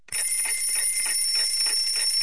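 A mechanical alarm clock bell rings at 8 in the morning in a rapid, shrill metallic clatter, loud, starting abruptly and sustained without pause, with no voices.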